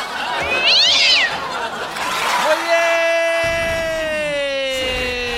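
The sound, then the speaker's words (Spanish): A cat gives a long, drawn-out meow that holds steady before sliding down in pitch. Brief high chirping sounds come just before it, fairly loud. “Un miau. Soy bau. Dame un miau.”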